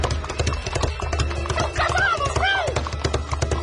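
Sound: horse hooves clip-clopping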